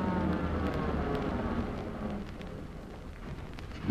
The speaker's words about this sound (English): First car pulling up to stop.